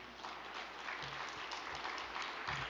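Steady audience applause, a dense crackle of many hands clapping at once that holds at an even, fairly loud level throughout, with no voices over it.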